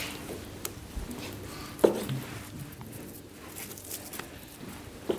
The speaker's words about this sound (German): aus den Schweinebacken das fette Fleisch für die Bratwurst rausgeschnitten. In den Vorgang hören wir hier.